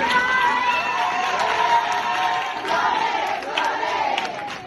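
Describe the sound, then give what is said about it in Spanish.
A crowd cheers and shouts loudly and continuously, with sharp bursts of clapping scattered through the steady roar of voices, as Alba Flores enters a screening of the Goya-contending documentary Flores para Antonio. “Abrazos, piropos y palmas que estallan cuando entra Alba Flores.”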